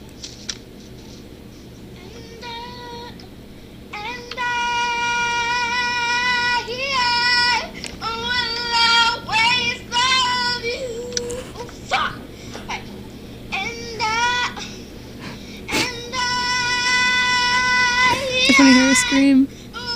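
A girl screeches out a song in a video, loud, strained, high-pitched wails, each drawn-out note wavering and cracking, broken by short gaps as she pushes through phrase after phrase.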